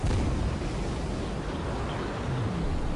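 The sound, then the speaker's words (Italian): Spaceship engines are started and roar continuously at a loud, steady level as the ship takes off as fast as it can from a small fake asteroid. A dense rushing rumble with heavy low-end power that never lets up. No voices. “Avviammo immediatamente i motori e decollammo più veloci che potemmo.”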